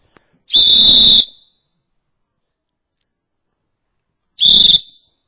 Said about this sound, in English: Let's blow the whistle again. What's it going to do? I brought another whistle here. Let me blow it a minute.